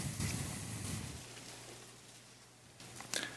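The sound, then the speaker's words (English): Bible pages rustle and flip in soft bursts as they are turned to Matthew 16: a papery flutter at the start and a couple of brief crisp shuffles near the end, over a steady low hum with no talking. “I love hearing the rustling of that.”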